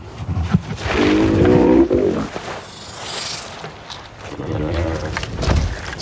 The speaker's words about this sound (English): So the groan of the male actually became, with some work and you know, adjustments and stuff, became the source, the basis for Drogon's purr with her.